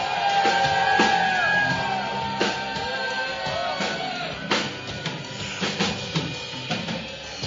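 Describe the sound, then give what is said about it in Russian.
A loud, drawn-out shout from an audience asked to shout as loudly as they ever have rings out and trails off over a few seconds, followed by scattered sharp knocks and bursts of noise against a busy, crowd-like background. “The biggest shout you have ever shouted.”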